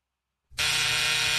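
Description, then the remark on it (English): After a brief silence, a loud, harsh buzzer blares on and holds steady with a raspy, dense tone right to the end, no voices present. “That's not a bell. That's a buzzer.”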